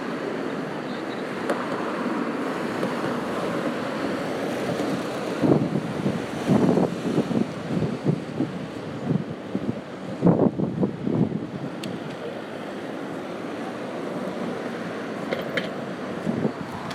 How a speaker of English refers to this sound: No shortage of traffic crossing Westminster Bridge this evening. Quite a stream going east at the moment.